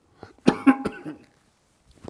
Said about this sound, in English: Let me cough here.